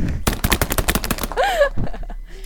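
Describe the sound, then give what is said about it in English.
A quick run of about a dozen sharp, loud slaps, a makeshift drum roll pounded on knees, followed by a brief rising-and-falling vocal whoop. “Drum roll, please.”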